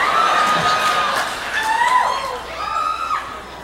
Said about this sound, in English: That clapping's messing my head up, man. I appreciate it, but I was trying to think of the next line. I'm like, all I hear is clapping.